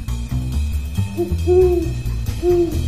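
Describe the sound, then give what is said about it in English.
A person imitates an owl's hoot, giving three rising, tonal hoots in a steady rhythm, fairly loud over a low rumbling background. “I let out our signature call to be subtle, but still let him know I was there. Infamous, unmissable call of the pre-war owl.”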